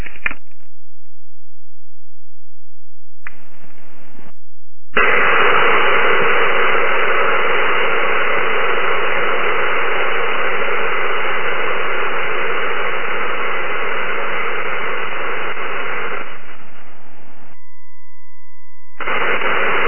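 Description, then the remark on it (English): Sonified spacecraft particle flux data recorded on approach to Rhea plays as a dense, steady hiss-like roar that starts after short bursts, fades as the flux decreases closer to Rhea, drops to near silence with a thin lingering tone for a few seconds, then briefly returns. No one speaks. “you'll hear the volume of the flux decreasing as we get closer to Rhea, and then you'll hear a gap of a few seconds, and then the fluxes will return and will increase again in volume.”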